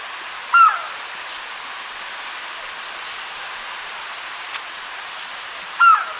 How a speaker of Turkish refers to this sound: Bu Pitta'ydı değil mi?